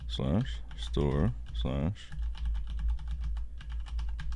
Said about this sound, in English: My keyboard is so loud. It really is. Is it one of those mechanical ones? Yeah. Yeah, it is.